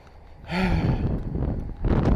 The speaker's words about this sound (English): God damn, this fucking weather. Wind. It's not bad weather. It's windy. It's warm, I guess.